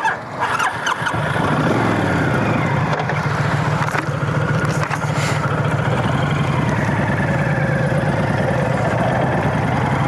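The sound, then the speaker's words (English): A motorcycle engine starts with a brief burst of clatter, then settles into a steady, loud rumbling idle that continues without pause, while the rider sits on it recording. “up here on my motorcycle.”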